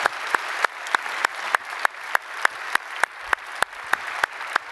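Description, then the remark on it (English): An audience applauds steadily to welcome each other, a dense wash of clapping with sharp individual claps popping out at a quick, fairly regular pace, sustained at an even level throughout. “And by applause, would you just welcome each other as we have people joining us from all over the place.”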